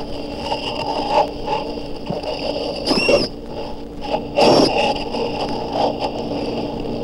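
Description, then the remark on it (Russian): A sirenian (sea cow) makes squeaks and squeals that ring out in short, scratchy bursts, two louder calls standing out over a steady underwater hum and crackle. “В прибрежных зонах теплых морей встречаются редкие животные, сирены. И голоса не так прекрасны, как в описаниях Одиссея.”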